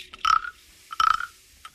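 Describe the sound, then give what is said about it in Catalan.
A frog by a puddle of water in front of a house croaks twice, each a short raspy, throaty call with a nasal mid-pitched tone, about a second apart, with faint clicks between and no talking. “La granota. Sabeu què és això? La granota, molt bé, exacte.”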